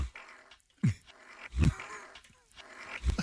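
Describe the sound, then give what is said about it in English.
A fart sound played in reverse: low, rumbling blasts that swell in rather than trailing off, about three short bursts separated by brief pauses, fairly loud with no talking over it. “The fart forwards and backwards sounds the exact same.”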